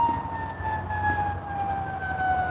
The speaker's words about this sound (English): If you're hearing a siren, it's not where you are, it's where I am, probably. We've got a fire truck on its way somewhere. I'm pretty sure it's a fire truck. The horn is different on the ambulances.